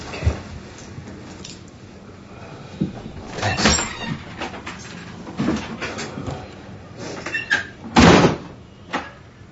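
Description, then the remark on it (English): Rattling and clunks of a door with a funky lock being worked, then one loud, hard slam as it shuts, followed by a smaller knock afterward. “Just slam the door real hard. The lock's kind of funky.”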